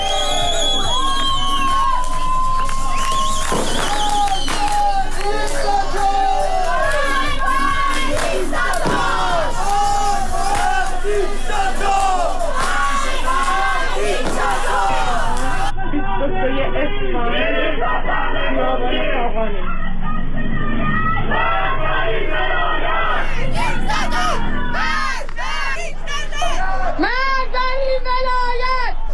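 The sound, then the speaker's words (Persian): A large crowd of protesters marching in Iran during the Chaharshanbe Suri celebrations chants slogans against the Islamic Republic, Khomeini and Khamenei. The slogans come in loud, rhythmic unison, voices rising and falling together with shouts and whoops breaking through, and the chanting continues steadily for the whole stretch. “بنابر گزارش ها، شهروندان معترض از جمله مبادرت به راهپیمایی، سردادن شعار و همینطور به آتش کشیدن تصاویری از خمینی و خامنه‌ای کردند.”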